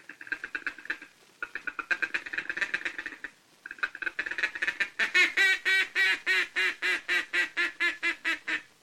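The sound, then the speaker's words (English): A duck call blows a rapid, chattering feeding chuckle in bursts, then shifts into a steady run of about fifteen loud, evenly spaced quacks of contentment, called to ducks as they come nearer. Clear, with no talking. “That's the time to give them the confidential chatter of the feeding chuckle, cramming in an optimistic quack, quack, quack, quack, quack, quack, quack of contentment as they come nearer and nearer like this.”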